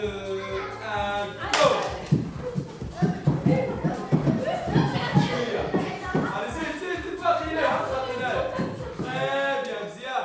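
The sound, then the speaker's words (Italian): Lively children's voices shout and chatter together over scattered thumps and claps as kids play a sack race in a room of a theatre in Tangier, busy throughout. “Attraversando il cortile, vedo in una stanza dei bambini che giocano alla corsa nei sacchi.”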